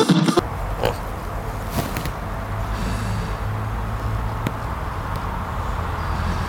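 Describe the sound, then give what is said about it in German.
A dog snoring in the background, with steady low, rumbling, snorting breaths and a few sharper snuffles, continuing without pause and with no one talking. “hörst du meinen Hund schnarchen im Hintergrund?”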